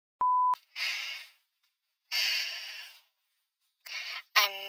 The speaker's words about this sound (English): Has been forwarded to an automated voice messaging system. At the tone, please record your message.